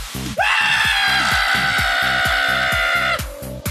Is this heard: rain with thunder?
no